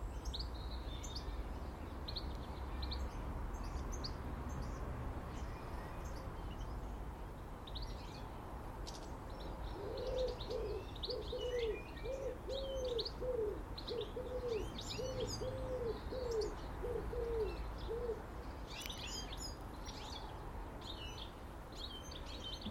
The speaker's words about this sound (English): The sounds of pigeons and doves is definitely a reminiscent thought of spring.